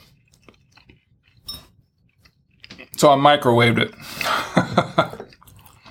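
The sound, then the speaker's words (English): Faint wet mouth clicks, then a brief spoken phrase, followed by a few louder, crunchy chewing bursts as someone eats leftover microwaved pizza, a little cold and tough, from the night before last. “Pizza's good, though. It's still good.”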